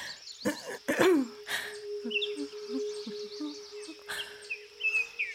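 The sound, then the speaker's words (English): Birds chirp and call in quick, scattered bursts over a steady background hum, with a few harsh, cough-like squawks near the start and no talking. “And all those birds singing, it just makes me want to join in.”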